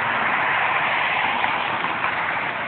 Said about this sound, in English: You hear how loud everything is right now? All right. There's cars going by.